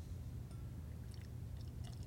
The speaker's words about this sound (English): Perfect. What a pour. Treat, yeah. Perfect pour there.